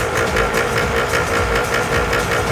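A car engine roars steadily and loudly, a rough, rhythmic mechanical drone with pulsing low harmonics, as the driver downshifts and drifts the car into Pompeo Castelli street. No one speaks.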